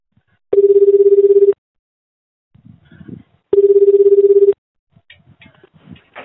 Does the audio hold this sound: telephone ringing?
yes